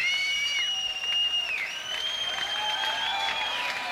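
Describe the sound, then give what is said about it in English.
A concert crowd at a rock band's show cheers and applauds steadily for several seconds, a dense wash of clapping with high, sustained whistles and shouts gliding over the top. “And the crowd's into it. They're going nuts.”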